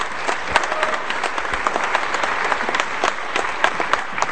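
Sustained audience applause, a dense steady patter of many hands clapping with a few sharper claps standing out, continuous and fairly loud throughout, with no voices over it.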